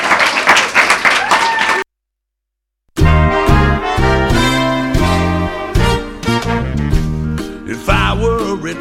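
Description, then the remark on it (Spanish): A short burst of applause from a small group of students for their classmates visiting a radio station, lively, cuts off abruptly; after a brief silence an upbeat music track starts and plays on. “Y nada, un aplauso para vuestros compañeros.”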